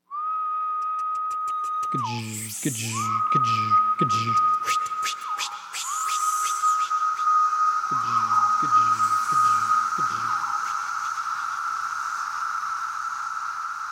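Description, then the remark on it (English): A chorus of three different cicada species: a steady, high, whining drone runs throughout, overlaid by bursts of rapid low buzzing pulses and a run of sharp clicking wing flicks, all fairly loud. “But the bottom line is, that notorious noise is this jumble of calls and wing flicks from three different species.”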